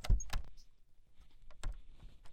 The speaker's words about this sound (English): Tell you what, close the door and lock it